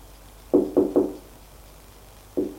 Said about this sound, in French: On frappe à la porte. Elle s'ouvre.